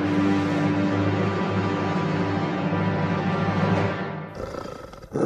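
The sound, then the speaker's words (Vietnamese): A dog growls, a low, sustained growl rumbling steadily for about four seconds, deep and continuous, then breaking off into a rougher, choppier snarl before a final short burst. “Những tiếng gầm gừ như hằn học thoát ra khỏi những chiếc răng nhọn hoắt của nó.”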